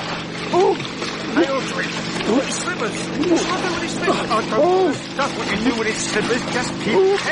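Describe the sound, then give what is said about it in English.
Water splashes and churns steadily as a man is carried to a swimming pool, upended and plunged head and chest deep into the water, with voices crying out in short bursts over the busy sloshing. “Each slipped an arm under his, lifted him clean, his feet bicycling in empty air, and carried him swift and gobbling, protesting and heaving, to the swimming pool, in a twinkling, upending him, plunging his head and chest deep in the water.”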